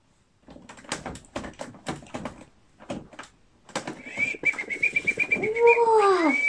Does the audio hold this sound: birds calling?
yes